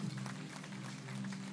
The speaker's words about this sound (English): Another clap offering for Joseph.